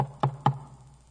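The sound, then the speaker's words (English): Two firm knocks on a wooden front door at midnight, a quick double rap, followed by a quiet pause with no voices. “At midnight, I had to go knock on her parents' door, standing on the front porch.”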